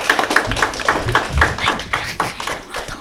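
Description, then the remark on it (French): An audience applauds a school class team's one-point score in a quiz game, a small group clapping in a steady, fairly even rhythm of sharp, bright hand claps for about three seconds with no talking. “On peut les applaudir.”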